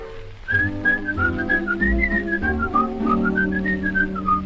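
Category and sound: human body sound, whistling a tune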